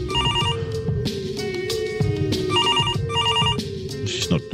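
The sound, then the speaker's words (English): An outgoing phone call's ringing tone repeats in short, bright double bursts with gaps between, fairly loud, over a steady low background hum. “Ringing.”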